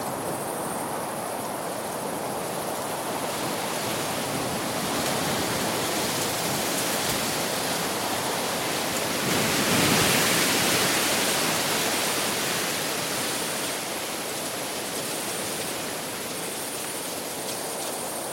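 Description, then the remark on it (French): A steady, hissing rush of mountain wind at Gran Sasso in Abruzzo fills the whole recording, swelling slightly in strength about halfway through before settling back to an even roar, with no voices. “Je crois que c'est là mon enregistrement de vent le plus récent.”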